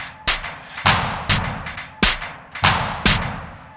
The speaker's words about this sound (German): Auf der Baustelle. Der Abriss ist in vollem Gang.